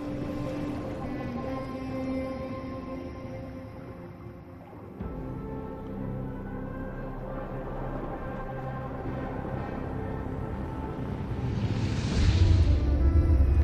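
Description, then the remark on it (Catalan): Cinematic trailer music for the film Avatar: The Way of Water plays alone: sustained low drones and layered tones, a deep rumble entering midway, then a swelling whoosh as the soundtrack grows louder near the end. “I tu, mira, podem escoltar una mica el tràiler.”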